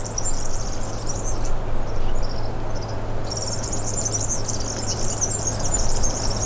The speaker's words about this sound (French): Ombragé, laissant les gazouillis des oiseaux.